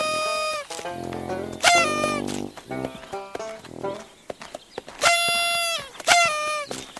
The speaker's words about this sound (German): Vor jedem Briefkasten, in den sie die Post einwerfen, trötet Lieselotte laut.